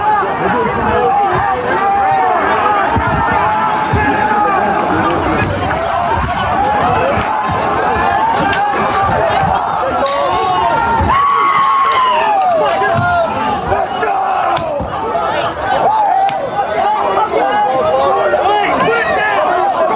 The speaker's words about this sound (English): Let's try and keep ahead of them. Crowd moving along nicely.